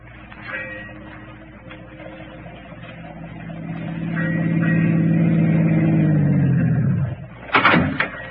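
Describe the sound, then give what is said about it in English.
A car engine rumbles as the car drives up to a waterfront dock, swells to a steady drone, then winds down as the vehicle rolls to a stop, followed by a sharp car door slam. “Hey, why don't you drive us right into that drink and be done with it?”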